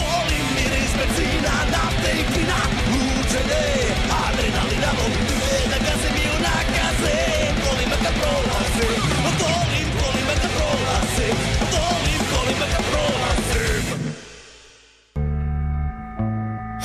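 A rock band's new single plays on Talasi Beograda 202, loud and dense with driving drums and shouted vocals, then cuts out near the end before a short, quieter musical sting.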